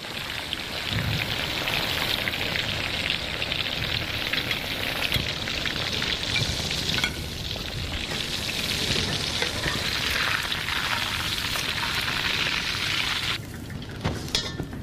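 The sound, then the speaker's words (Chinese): Food just put into hot oil for deep-frying, turning golden, gives a steady, dense crackling sizzle that runs loud for the whole stretch, with a brief dip near the end and no voices. “哎，对，这样就可以了，这样完全都没有气泡了。好，准备下锅了。”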